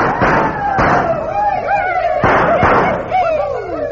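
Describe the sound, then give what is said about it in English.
Four sharp, loud gunshots ring out, falling into two quick pairs, while whooping, yelping voices carry on underneath. “I can't stand the sound of gunfire no more.”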